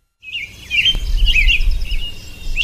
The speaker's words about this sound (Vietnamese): đã nghe một tràng líu lo thình lình cất lên ngay trước mặt. Tiếng hót trong trẻo, nhịp nhàng và vui tai, hòa vào những tiếng chim họa mi khác, khiến cả lâu đài như bừng sáng.